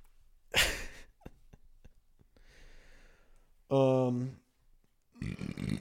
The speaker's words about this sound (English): This is a couple burps there.